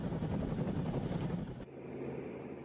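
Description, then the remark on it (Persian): A loud, steady roar of aircraft engines with a choppy, rotor-like pulse, continuous, cutting abruptly to a lower, duller engine drone partway through, at the American military airbase in Kandahar, Afghanistan, a major takeoff and landing hub for aircraft including drones. “اینجا پایگاه نظامی آمریکایی‌ها در قندهار و بزرگترین مرکز نشست و برخاست هواپیماها از جمله هواپیماهای بدون سرنشین نیروهای ویژه آمریکا در افغانستان بود”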